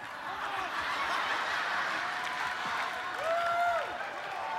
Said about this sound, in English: Look at you. Some of you got your opera clap on.